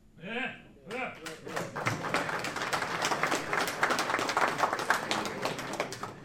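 A brief vocal sound, then one person claps hands in a quick, steady run of sharp, loud smacks that continue for about five seconds.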